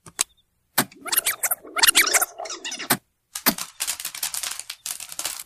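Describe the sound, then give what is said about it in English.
Stovetop popcorn, identified as the Chintzy Pop brand, popping in a pan: dense, irregular bursts of sharp crackling pops over a low sizzle, with a short lull midway before the rapid popping picks up again. “Stovetop popcorn.”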